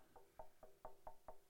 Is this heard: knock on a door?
yes